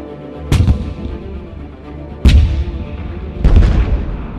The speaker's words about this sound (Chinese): 密集的炮声隆隆作响，炮弹一颗接一颗的在树丛前爆炸。